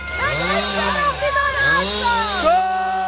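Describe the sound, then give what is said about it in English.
Police chainsaws rev up and down several times in a loud, continuous whine as they break through barricades while evicting activists from tree houses in a forest, the pitch swooping repeatedly over a steady low rumble. “Police used chainsaws to break through barricades and pulled activists from the trees on cherry pickers.”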